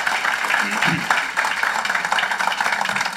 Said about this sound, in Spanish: Y por eso quiero recibir con un fuerte aplauso a mi esposita, que nos va a estar trayendo la palabra.